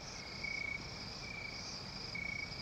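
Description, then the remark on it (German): Crickets chirp steadily at night outside a hot, moonlit hotel room in Jamaica, in a scene from the James Bond film Dr. No; their high trilling pulses repeat in a continuous, even rhythm against a quiet background hum. “Mondlicht scheint durch die Fenster, Grillen zirpen.”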